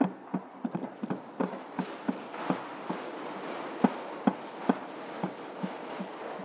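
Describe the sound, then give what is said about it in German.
Many quick knocks tapped out by hand in an uneven, busy rhythm, imitating hammering while building, moderately loud with a faint hiss between the hits. “Er begann zu bauen. Wir können klopfen.”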